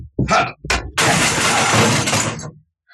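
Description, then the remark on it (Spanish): Two quick sharp knocks, then a flower vase is deliberately smashed during a search, with a loud, bright crash as shards scatter and clatter for over a second before stopping abruptly. “Examina ese otro florero. Rómpelo.”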